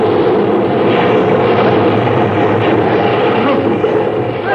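A heavy wave crashes over a ship's deck during a storm, a loud, steady roar of rushing water that lasts several seconds without letting up, with no voices heard.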